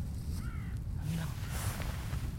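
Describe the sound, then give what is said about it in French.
A red kite's thin whistling call, a couple of short faint wavering notes rising out of steady low rumbling wind noise. “Il y a un petit sifflement.”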